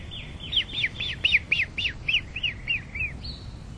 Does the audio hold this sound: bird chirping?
yes